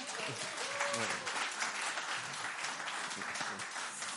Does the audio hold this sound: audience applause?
yes